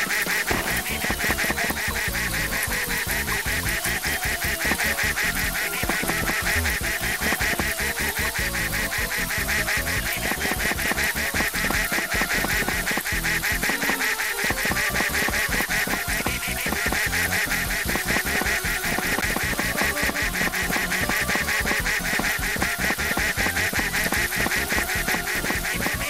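A dense, continuous chorus of duck quacks fills the whole stretch at steady loudness, with overlapping calls and no voices speaking.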